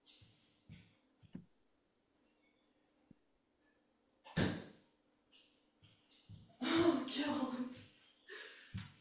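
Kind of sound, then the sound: household object, door being closed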